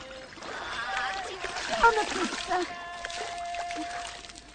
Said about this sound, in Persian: گیلانه مشغول شستن لباسای اسماعیل تو حوض سنگیه.